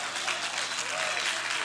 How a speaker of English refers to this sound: Somebody give the Lord a real clap in here.